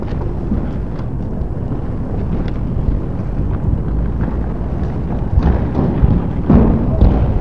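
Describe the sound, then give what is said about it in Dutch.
Objects thrown at police, including eggs hitting a patrol car, land with scattered heavy thuds over a constant low, roaring din, the impacts growing louder and more frequent toward the end. “De politie wordt onmiddellijk gelijk bekogeld en gaat weer, start in ieder geval een motor.”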